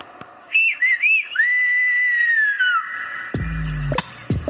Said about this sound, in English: The Gomeran whistle is in the island and is the history of the island. It was here already when the first settlers, the Guanches, lived on it.